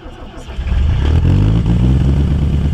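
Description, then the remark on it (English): An old black cab taxi diesel engine, modified for a narrowboat on the Grand Union Canal, cranks and catches with a cloud of blue smoke, then settles into a loud, steady low chugging idle with a rough rhythmic knock. “With a cloud of blue smoke, the old black cab taxi engine, modified for an aquatic life, fires up, scattering wildfowl asunder, momentarily shattering the peace of the Grand Union Canal.”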